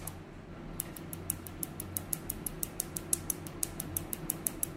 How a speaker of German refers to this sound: Das Explodieren der Farbpigmente beim Lasern kann man sogar hören. Ich finde, das hört sich so ein bisschen so an, als würde man Luftpolsterfolie so zwischen den Fingern zerknacken.